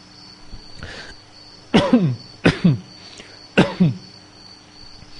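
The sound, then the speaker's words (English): Three harsh coughs, the last two coming in quick doubled bursts, preceded by a faint throat-clearing rasp, over a steady high hum and no talking. “When I cough, let myself not cough.”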